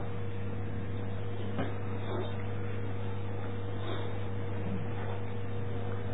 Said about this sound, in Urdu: ہاں بھائی یہ پنکھا ذرا چلا دو, اس وقت مجھے سردی لگ رہی تھی اب ذرا کچھ گرمی سنا دوں.